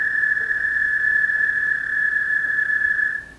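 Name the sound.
american toad trill call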